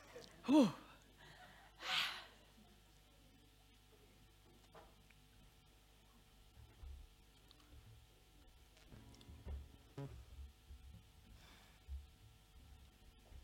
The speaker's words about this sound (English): Wow, panting. Must do more Zoom gym.